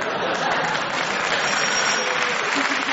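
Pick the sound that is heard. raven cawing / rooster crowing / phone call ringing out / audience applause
audience applause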